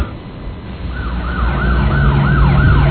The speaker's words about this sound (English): Well, that's a modern siren. Yeah, it's a modern siren.